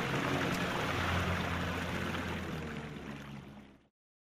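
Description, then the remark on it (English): A motorboat engine on a fishing trip runs with a steady, loud drone and churning water noise, without talk, then fades out abruptly near the end; it is started to head back to dry land because of a hole in the boat. “Quick, start the engine. Let's get back to dry land.”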